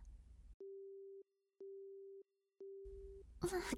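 phone busy tone

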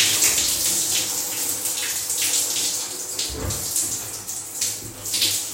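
shower water running

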